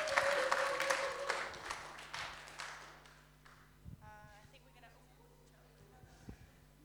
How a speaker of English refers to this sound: Why don't the spokesperson, the scripture readers, and the joke tellers all come up here? Come, give them a round of applause.